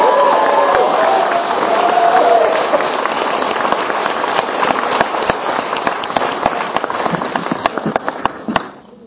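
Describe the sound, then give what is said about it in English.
A large crowd at an event claps steadily for several seconds for its more than 60 volunteers, with some cheering and whistles early on, then the applause thins into scattered claps and fades out. “So would you give a big hand of applause to the volunteers?”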